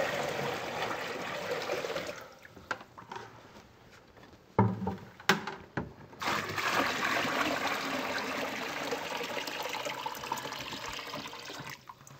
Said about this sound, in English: our first step right now is going to be to fill the basin with some water